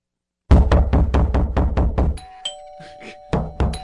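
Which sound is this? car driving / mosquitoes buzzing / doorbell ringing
doorbell ringing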